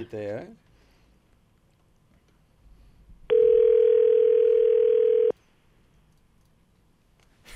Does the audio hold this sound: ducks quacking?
no